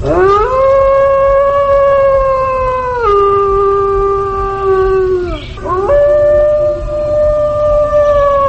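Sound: male wolf howling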